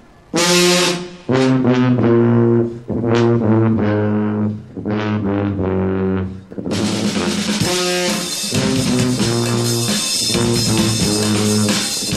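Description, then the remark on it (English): A loud alternative marching brass band, one of 28 at the 4th annual Honk Festival of street bands, plays on a beautiful day: a punchy, repeated riff with sustained horn chords, then drums and cymbals crash in and the whole group launches into a full, energetic street march, brassy. “They're just one of the 28 alternative marching bands represented here.”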